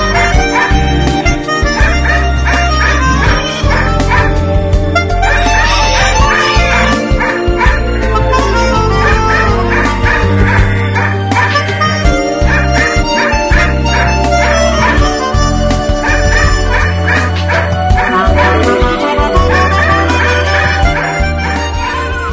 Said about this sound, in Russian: Ушах зазвенели веселые колокола, а в моем дворе лаяла собака.